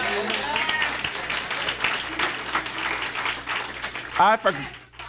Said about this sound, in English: Are y'all clapping?